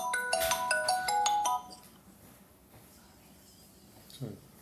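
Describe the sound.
A phone rings with a bright, melodic electronic ringtone, a quick run of repeated tones lasting about a second and a half before cutting off, leaving quiet room noise and a brief faint voice.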